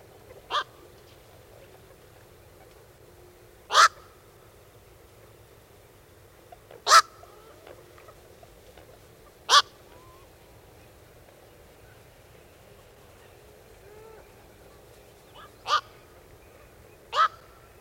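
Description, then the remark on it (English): A black-crowned night heron gives a series of single, abrupt, harsh low-pitched calls, six in all, spaced irregularly a few seconds apart against a quiet background with faint low rumble. “The call of the wide-ranging black-crowned night heron is a low-pitched "walk."”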